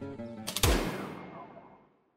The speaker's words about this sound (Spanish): No acabó de hablar. O si acabó, no lo oí con el ruido del tiro. Cayó al suelo.